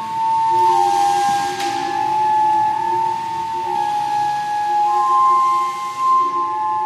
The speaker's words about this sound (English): Everything is, all the sound is produced mechanically by hitting parts of the building or causing the girders to vibrate, blowing air through pipes to make them act like giant flutes. It's all real basic kind of Rube Goldberg kind of stuff.